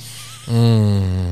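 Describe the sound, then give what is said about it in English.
A person gives one loud vocal imitation of a bald eagle call, a sustained, low, buzzy cry lasting under a second after a brief quiet lead-in. “A bald eagle.”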